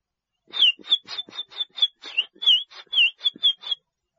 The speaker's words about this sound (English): Budgie.